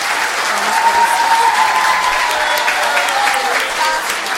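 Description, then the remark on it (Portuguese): Sustained audience applause, a dense, steady crackle of many hands clapping at a loud, even level for several seconds, with faint voices mixed in. “Palmas para vocês.”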